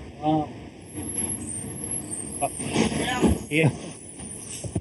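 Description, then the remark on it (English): A bus rumbles closer outdoors on a warm day over steady traffic noise, with a brief squealing, hissing brake sound partway through and faint voices at moments. “Sounds like the bus is coming.”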